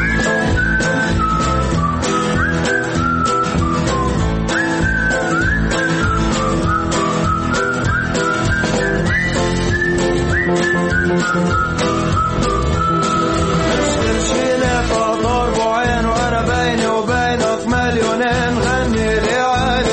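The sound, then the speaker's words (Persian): Someone whistles a melody continuously for about twenty seconds, bright and clear over a full musical backing, the tune rising and falling with quick ornamented phrases near the end. “آقای خلبان سوت بزن، سوت بزن آقا، سوت بزن.”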